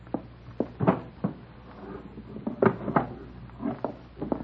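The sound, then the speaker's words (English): The bottom drawer of a dresser is pulled open and pushed shut as a gun is fetched from it, with a series of wooden thumps, knocks and rattling scrapes spread unevenly over a few seconds. No one speaks. “The gun. It's in the bottom drawer of the dresser. I'll get it.”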